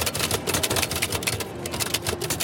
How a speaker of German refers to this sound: Allein schon dieses Geräusch einer alten Schreibmaschine macht viele Passanten neugierig.